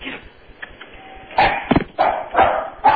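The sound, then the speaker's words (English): A dog barks on command, letting out a run of loud, sharp barks, about five in quick succession after a quieter start, with a faint ringing tone threaded between them. “Certainly not against the rules, but I think he's doing the doorbell for you.”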